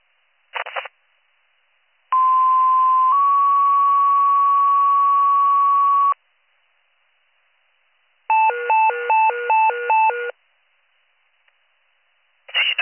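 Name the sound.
fire dispatch alert tones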